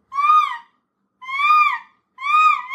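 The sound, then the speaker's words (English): A hawk calls three times in a steady rhythm, each cry a clear, ringing, slightly wavering note lasting about half a second, loud with quiet pauses between. “It's a hawk, Joss.”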